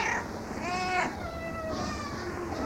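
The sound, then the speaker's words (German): Several cats meow in overlapping, drawn-out calls against a steady background hum in the roughly 100-metre-long corridor of an animal shelter's cat and small-animal house, with two or three distinct wails rising and falling. “Der etwa 100 Meter lange Gang durch das Katzen- und Kleintierhaus wirkt wie eine Einkaufspassage.”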